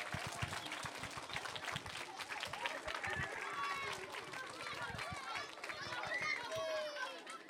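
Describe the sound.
An audience breaks into steady, dense applause lasting several seconds, many hands clapping at once, with a few voices calling out and cheering over the clapping, after a judo demonstration by members of the US Orléans Judo club in Orléans.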